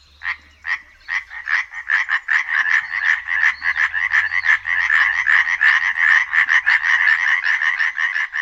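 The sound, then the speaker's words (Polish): Tree frogs call at dusk in a loud, high-pitched, rapid rattling trill, dense pulses running continuously for the whole stretch with no voices, a chorus that swells slightly as it goes on. “Ich głos to wysoki, przeciągły turkot. Trzeba podkreślić, że jest to najbardziej donośny głos spośród naszych płazów.”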